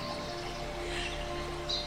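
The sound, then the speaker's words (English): Faint birds chirping over a steady low hum, with one brighter, sharper chirp near the end; no one speaks. “You listened to the birds.”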